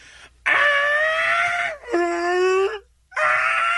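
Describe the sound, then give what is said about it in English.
A person's voice imitates Godzilla's roar in three loud, strained, screeching bursts, each a long sustained cry with a shrill, slightly wavering pitch and brief pauses between. “Now that you've cleared your throat, let's hear your Godzilla impression.”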